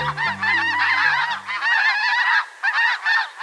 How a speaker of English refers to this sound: In winter, flocks of white geese gather by the thousands in fields and marshes of the U.S. and Mexico. All the birds in this flock flying through North Texas have white bodies, black-tipped wings, and pink legs.